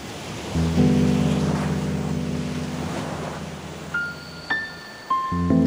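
Waves rushing around a boat out at sea, with wind noise and a steady low drone underneath, and a few brief tonal creaks near the end. No one speaks.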